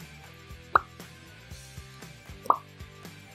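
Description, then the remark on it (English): Two clear, bright bubble pops stand out about two seconds apart, each a short liquid plop, over a soft backdrop of quieter rhythmic thumps and tones. “Bubbles there.”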